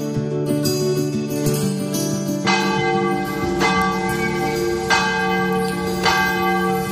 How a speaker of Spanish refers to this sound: Este sonido, el de las campanas, siempre ha formado parte de la banda sonora de las parroquias, ¿no? Y de los pueblos.